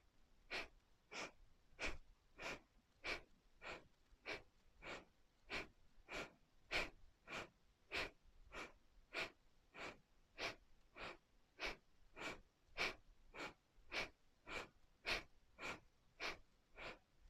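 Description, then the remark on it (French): Steady, rhythmic breathing in and out, clear, with sharp forceful breaths repeating at a quick, even pace, around two dozen in a row, and no talking, during a guided breathing exercise. “Inspire, expire, inspire, expire, inspire, expire.”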